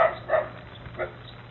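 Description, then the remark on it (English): A dog barks a few times in short, yappy bursts, moderately faint, over a low steady background hum with no voices. “So we got all these dogs.”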